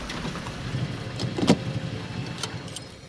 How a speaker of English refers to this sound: Park the car.